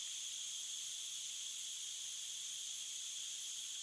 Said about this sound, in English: My finger is on the valve. Just a tiny little turn and listen. Can you hear that? Gas is being released into the mask.